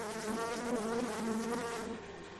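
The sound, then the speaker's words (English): A steady insect buzz with a wavering drone that rises and falls slightly, five busy yellow bees humming together, continuing for a couple of seconds with no voices. “Yes, always buzzing around.”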